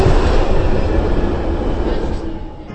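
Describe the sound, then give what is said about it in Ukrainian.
A London Underground train running, a loud, steady roar and rattle of wheels and carriage noise that holds throughout and eases slightly at the very end. “з лондонського метро, якому виповнилося 150 років.”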